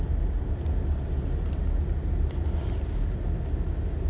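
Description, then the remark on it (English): An ambulance rumbles past on the street, its heavy engine a steady, loud, low roar throughout with no siren standing out, and faint higher squeaks briefly cutting through midway. “Do you hear the truck? Oh no! It's an ambulance.”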